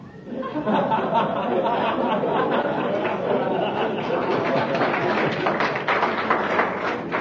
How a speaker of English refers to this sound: I didn't expect to get applause for that.